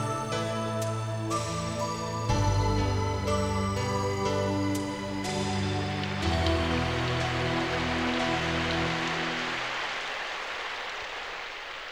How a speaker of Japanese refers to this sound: 雨か。